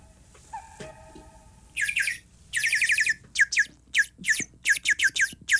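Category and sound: bird, bird calling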